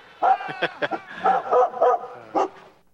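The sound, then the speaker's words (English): A dog named Stormy barks in a quick series of about six short, tonal, somewhat yelping barks, fairly loud, with brief pauses between them and no talking. “But with a dog like Stormy, or any dog or cat or pet, you know, it's not like a relationship.”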